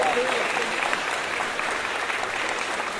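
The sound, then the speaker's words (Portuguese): An audience applauds steadily for the composer of a samba, a dense wash of many hands clapping at an even, fairly loud level for about three seconds without letting up. “gostava de palmas pro compositor.”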